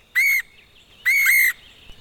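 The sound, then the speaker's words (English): Two clear, whistled bird calls ring out, a short one followed by a longer, slightly wavering one, fairly loud against a quiet background with no talking. “Even the birds listen to Radio Thrift Shop.”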